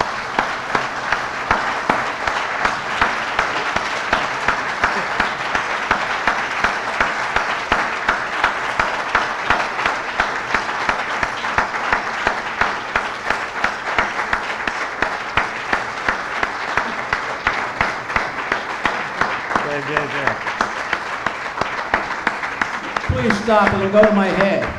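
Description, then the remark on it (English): A crowd applauds steadily for over twenty seconds, a dense, even wash of many hands clapping at a constant loud level, with a voice beginning to speak as it ends. “everyone should give you a round of applause for what you've done on this.”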